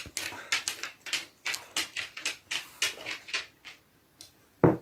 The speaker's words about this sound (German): Genau, und hier tappt der Hund wieder ein bisschen rum, die ist auch schon aufgeregt, weiß, ob die auch gleich was loslassen muss.